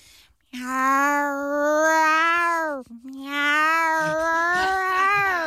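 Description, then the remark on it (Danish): A human voice imitates an angry tomcat, letting out two long, loud, drawn-out yowls, the second following almost immediately after the first with only a brief catch between them. “Det er en sur hankat, der bare bestemmer over gården her.”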